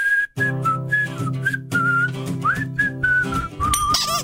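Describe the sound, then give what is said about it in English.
A bright whistled melody of the dreidel song moves through a string of short, bouncy notes in a steady rhythm over a sustained low hum, with no talking. “All right, we're gonna jump right into the whistle with this next one.”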